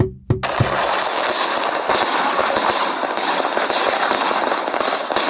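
New Year's fireworks crackle and pop in a dense, continuous barrage, sharp bangs at the start giving way to a steady roar of overlapping bursts and crackling that fills the whole clip.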